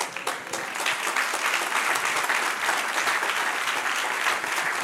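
A church audience applauding to bless the Lord, a dense wash of many hands clapping at an even, sustained loudness for the whole stretch, with no voices standing out.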